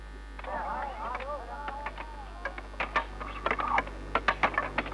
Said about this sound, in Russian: Звуки, которые вы слышите, это шум работы самого большого в мире завода боеприпасов, который занимает площадь 17 тысяч километров и на котором, по-моему, работает не меньше 600 миллионов человек.